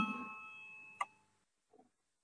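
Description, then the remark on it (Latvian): A parliament voting bell rings steadily for over a second to call a vote on a committee proposal, with a bright struck accent just before it cuts off. A brief, soft muffled sound follows in the quiet. “Lūdzu zvanu, balsosim par trešo valsts pārvaldes un pašvaldības komisijas priekšlikumu.”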